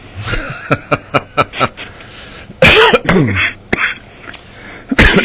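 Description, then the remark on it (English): A loud bout of coughing: a quick run of short, rhythmic coughs, then a heavier, raspy cough with throat clearing, followed by a couple of scattered single coughs. “Yeah, you and me both have a cough.”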